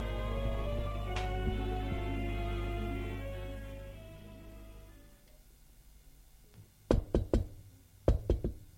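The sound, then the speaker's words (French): Two quick sets of three sharp knocks on the door of a room ring out loud, following a low, droning background that fades away into near silence. “Une fois qu'il est habillé, il frappe à la porte de la pièce.”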